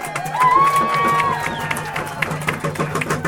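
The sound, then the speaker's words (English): A crowd breaks into sustained applause, dense clapping mixed with cheers and a sharp whistle rising above the noise, loud throughout. “And this Attorney General really is the people's lawyer, and I ask you to give him the round of applause he deserves.”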